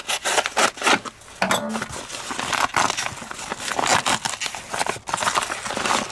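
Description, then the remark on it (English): A knife saws through a sturdy, still-sealed mylar kit pouch, opening it beyond the seal, in quick, repeated rasping strokes, with crinkling plastic textures and brief pauses between bursts. No one speaks. “So I'm just going to take a knife, and you can see this material is really sturdy.”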